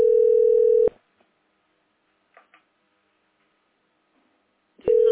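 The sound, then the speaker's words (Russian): Telephone ringing tones after dialing a mobile phone number: a loud, steady electronic beep, a long pause broken only by faint clicks, then the same beep starts again, with no talking. “Таня, сотовый, набери, пожалуйста, номер телефона”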